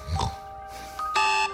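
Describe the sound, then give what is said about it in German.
An electronic alarm clock in Germany, shortly before 5 in the morning, gives a short, bright buzzing beep, fairly loud, after a soft thump and a brief lower tone, then cuts off abruptly. “Bis der Wecker rappelt.”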